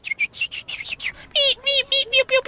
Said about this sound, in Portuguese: Ou então o som dos passarinhos.